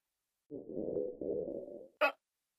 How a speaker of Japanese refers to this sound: あ、すいません、お腹が鳴ってしまって。